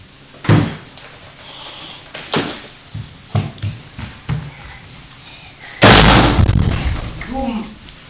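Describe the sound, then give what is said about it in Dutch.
A refrigerator door is handled roughly while milk is put away: several sharp knocks and bumps, then one loud slam that rattles and rings briefly before fading. A voice can be heard faintly in the background. “Beetje zachtjes met de deur.”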